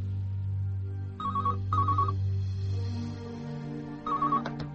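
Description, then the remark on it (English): A telephone rings with a warbling electronic trill: two quick bursts close together, a pause, then a third, over a steady low hum. Clear, with no one talking. “Alex Price is unable to answer the phone.”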